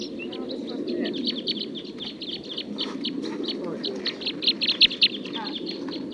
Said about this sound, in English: Song of one of the wild birds.